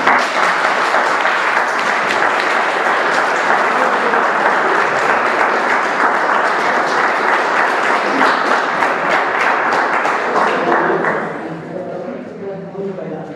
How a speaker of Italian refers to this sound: Dopo questo applauso, compagni, si possono iniziare anche le domande.